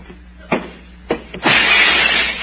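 A person walks into a closed door: several dull, heavy thumps land against it, two solid knocks and a quick third bump, followed by a sustained broad wash of noise.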